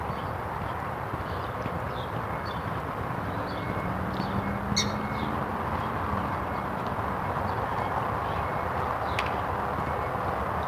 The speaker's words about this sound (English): Prairie dog chirped at me.